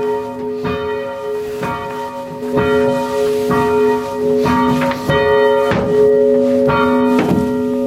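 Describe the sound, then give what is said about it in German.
A church bell rung by hand with a rope strikes about ten times at a fairly steady, unhurried pace as the ringer gives it less swing before stopping, each stroke loud, its deep hum ringing on continuously between strikes. “Vor dem Aufhören gebe ich weniger Schwung. Das ist kein schonender für die Glocke.”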